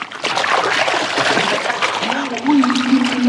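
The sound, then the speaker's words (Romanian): A net, swung three times through the air, is flung into water with a splashy, churning rush, and sloshing and dribbling continue throughout. A sustained voice-like tone rises over the water in the second half. “Rotește-o de 3 ori prin văzduh, apoi arunc-o în apă.”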